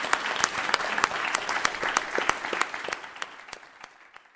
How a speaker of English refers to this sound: Can we have a final round of applause for both of our excellent speakers today?